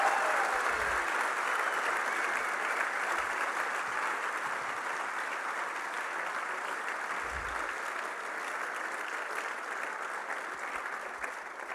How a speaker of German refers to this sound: Applaus! Vielen Dank.